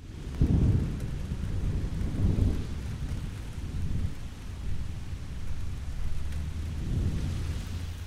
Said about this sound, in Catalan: Plou.